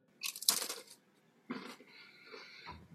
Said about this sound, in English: Not even going to complain about you crunching those peas, cheese, and C's, man, because it looks delicious.